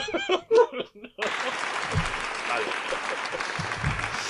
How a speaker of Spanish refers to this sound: Vale. Gracias, público. Dios, estoy escuchando los aplausos de lejos. Desde aquí, los estoy escuchando.